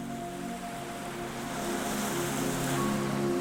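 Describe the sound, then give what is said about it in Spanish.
Soft waves wash steadily onto the shore of a fine-sand cove set into a cliff at calm tide, a continuous hiss of water that swells slightly midway, with a faint low hum beneath and no voices. “La marea está tranquila. Las olas llegan con delicadeza y se retiran sin prisa.”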